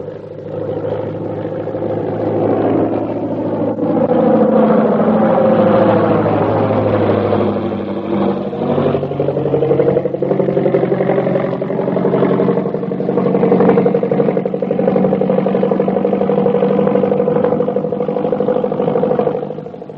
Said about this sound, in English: Here comes the plane. We'd better stand where we can get a full view of everybody getting off.